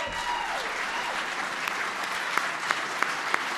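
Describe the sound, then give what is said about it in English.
Sustained applause from a large audience for Medal of Freedom winners, a dense steady wash of clapping with a few sharper, louder claps standing out near the end. “Can everybody please stand and give a rousing applause to our Medal of Freedom winners?”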